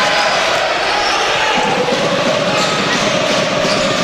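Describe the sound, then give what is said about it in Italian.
A large arena crowd at the PalaMangano applauds and cheers steadily throughout a basketball game between Scafati and Trento, after a rebound by Rossato: a loud, continuous wash of clapping and noise with faint voices mixed into the din. “Dogan è il suo tiro e viene abbassato, tiro lungo però la recupera Rossato, gli applausi del Palamangano, bel rimbalzo.”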